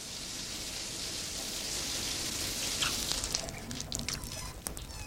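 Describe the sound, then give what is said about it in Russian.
A shower runs with a steady hiss of spraying water, and a few sharper splashes and taps come through in the last couple of seconds. “Душ — это чудесно.”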